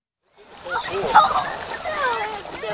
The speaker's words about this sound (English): Two dozen children are splashing about, diving for sunken toys, and floating on their backs in the Mind Kill State Park pool.